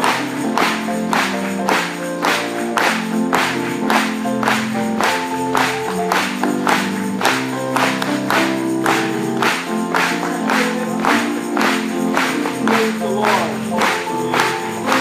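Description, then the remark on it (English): An audience claps together to God during worship in a steady, even beat, roughly twice per second, loud and continuous over sustained music, with no talking heard. “Let's do it one more time for Him.”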